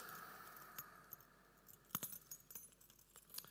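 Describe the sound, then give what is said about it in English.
A bunch of keys jingles and clinks in short metallic bursts, shaken several times, with bright rattling accents over a quiet background. “These are my keys, okay?”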